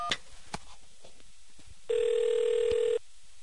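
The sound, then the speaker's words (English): A single touch-tone keypad beep from pressing 1 on an SBC automated phone menu, a steady electronic tone held for about a second and fairly loud, comes after a quieter moment with a faint brief blip. Nobody speaks. “I'll press 1.”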